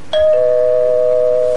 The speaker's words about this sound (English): It's the doorbell, you dimwit.